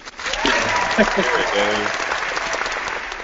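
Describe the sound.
A burst of steady clapping fills the whole few seconds, with a brief cheering voice over it near the start before the applause carries on alone at an even level.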